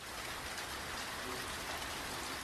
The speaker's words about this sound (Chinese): 小雨点说话，沙沙，沙沙。